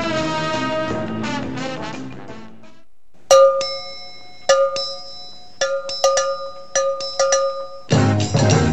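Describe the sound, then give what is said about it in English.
A short instrumental bumper music piece played during a break on the Phil Henry Show: a melodic passage fades, then bright metallic bell-like strikes ring out in a syncopated pattern before full music returns. No voices. “Really thinking about this bumper music, aren't we?”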